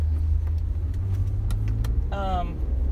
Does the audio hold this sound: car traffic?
yes